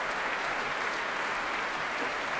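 Steady, dense audience applause in a concert hall after a performance of Chute d'Etoile, with Marco Blau and Tina Ting Helset back on stage alongside Matthias Pintscher, who applauds them warmly; a continuous crackle of many hands clapping at an even level with no voices rising above it.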